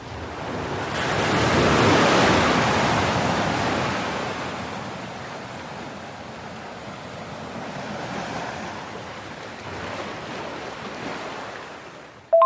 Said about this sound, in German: Und freue mich, wenn du weiterhin so ein bisschen Meeresrauschen rüberschickst übers Internet. Dann kann ich nämlich auch ein bisschen mit entspannen.